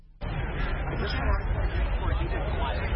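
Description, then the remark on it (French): Dense crowd hubbub outside the Supreme Court in Washington, D.C., on a Thursday as people await the court's ruling: many overlapping voices merge into a steady, loud babble that starts abruptly after a brief quiet moment and holds constant throughout, with no single voice standing out. “Une foule s'était réunie jeudi devant la Cour suprême à Washington, D.C. pour attendre le jugement.”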